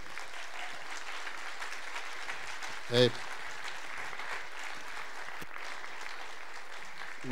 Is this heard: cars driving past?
no